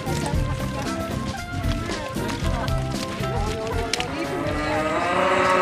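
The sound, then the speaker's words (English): Several heifers moo in a farm pen, their deep, drawn-out calls overlapping continuously, with a busy farmyard hum and faint movement beneath. “Yeah, they're all yours in that pen, yeah.”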